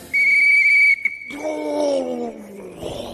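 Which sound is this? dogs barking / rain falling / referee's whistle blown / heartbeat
referee's whistle blown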